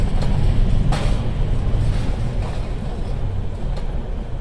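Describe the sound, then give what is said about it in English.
A train rolls along with a heavy, continuous low rumble, broken by a few sharp clacks of wheels over the rails as it gathers speed. It is loud, with no voices. “The train will be picking up speed in a moment.”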